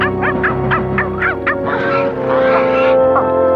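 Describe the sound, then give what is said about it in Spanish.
A swan swimming on a pond honks in a quick series of short, nasal calls, then lets out a longer, louder drawn-out honk, over a steady low background hum. “Un cisne que nada en el estanque mete su pico en el agua y saca a Milú por el rabo.”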